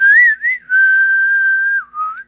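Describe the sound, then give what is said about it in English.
A clear whistled melody with a few gliding notes, including one long sustained tone, carries alone and loud without any voices, from the Clint Eastwood western film The Good, the Bad and the Ugly. “Where is the whistling sound from the that whistling sound?”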